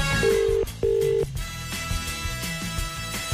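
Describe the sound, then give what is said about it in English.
Two steady electronic ringing tones of a phone call placed from the Today FM radio show, each lasting under half a second with a short gap between them, heard over a dense musical bed at moderate loudness. “Hang on. Spoiler alert. It's ringing.”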